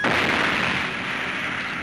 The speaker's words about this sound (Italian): Dice allo sparo del cannone, tutta Roma a letto.